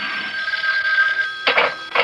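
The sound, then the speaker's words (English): The boss's hotline telephone rings with a bright, trilling electronic bell, one sustained ring followed by two shorter bursts, loud and steady with no voices over it. “Oh, the boss's hotline.”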